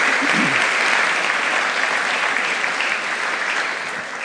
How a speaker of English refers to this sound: So now you can give these folks a round of applause.